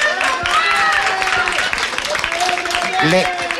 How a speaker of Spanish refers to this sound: Oye, un aplauso todos